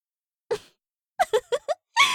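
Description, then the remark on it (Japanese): A person imitates a pig with nasal, grunting oinks: one short grunt, a pause, then a quick run of four, ending in a longer breathy snort. Fairly quiet, with no other talk. “そんなにブヒブヒ鳴く犬がどこにいるのかしら。”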